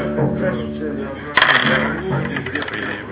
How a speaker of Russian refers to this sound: Ты кинул обычный кубик, профессиональный кубик, у тебя выпало 5.